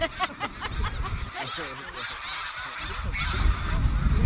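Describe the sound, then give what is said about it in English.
A flock of geese flying in V formation honks overhead, with many overlapping calls repeating continuously and growing slightly louder toward the end, over a steady low rumble of background noise. “The longer arm has more geese in it.”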